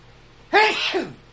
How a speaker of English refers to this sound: Excuse me. Sneeze. Excuse me.